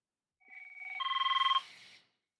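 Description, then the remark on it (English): A new phone rings with a rapid, trilling electronic tone that pulses quickly and swells louder for about a second and a half before cutting off. It is clear, with no talking. “And I can't find my Do Not Disturb button. I've got a new phone.”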